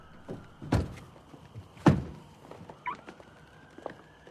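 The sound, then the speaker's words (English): Two solid thuds as a couple shut the doors of a red car, about a second apart, followed by a few soft, scattered steps and faint clicks as they walk into a terraced home, against a low background hum. “The couple exit a red car and walk into a terraced home.”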